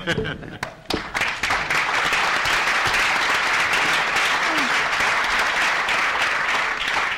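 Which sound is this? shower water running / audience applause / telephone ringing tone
audience applause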